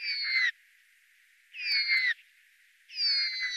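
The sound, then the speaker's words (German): A Eurasian nutcracker, a member of the crow family, gives three drawn-out, two-voiced calls, each blending two separate tones at once, spaced about a second apart. Clear, with no other sounds between them. “Von einem Tannenhäher, er gehört zu den Rabenvögeln, hört sich dieser zweistimmige Gesang so an.”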